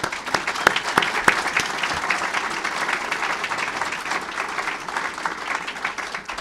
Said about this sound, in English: I admire her greatly, and I know that she loves her country, she loves her state, and I want to just give a round of applause to her.